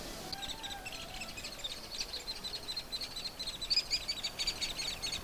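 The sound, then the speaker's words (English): A continuous high-pitched chittering of baby hairy woodpeckers in a nest hole about 15 feet up a fairly large aspen tree on Oberg Mountain, rapid and buzzy, carrying steadily over soft, windy outdoor background noise with no talking. “You hear that noise? Kind of chittering. Those are baby woodpeckers.”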